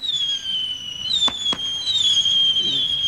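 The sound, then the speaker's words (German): A firework from a package labelled Hurricane, lit by its fuse at a fireworks factory's rocket testing ground in Eitorf, goes off with a shrill, steady whistle that wavers slightly in pitch throughout, punctuated by two sharp cracks in quick succession midway. No one speaks. “Während die Lunte brennt, denke ich an die Worte des Geschäftsführers: Feuerwerk wird künftig leiser werden.”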